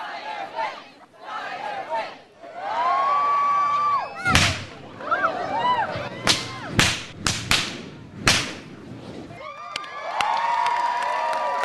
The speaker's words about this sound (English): reaches into an old trunk and pulls out a long black whip, heavy and dripping with gas. And right on cue, the audience begs him to light it.